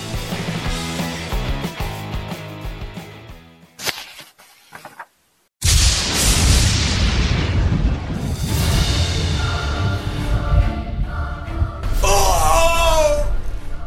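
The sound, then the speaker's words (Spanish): Galactus, the giant Devourer of Worlds, lets out a huge, agonized scream after being struck and gravely wounded, collapsing before the zombies: a harsh roaring wail that bursts in after a tonal swell and a brief silence, rising into a wavering, high-pitched cry near the end. “Era el grito de Galactus.”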